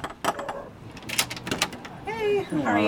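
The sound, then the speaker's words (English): Several sharp knocks on a front door in Ashland's Railroad District, spaced irregularly, as Republican state senate candidate Alan DeBoer goes door to door, followed by the start of voices talking at the doorway. “He's knocking on doors.”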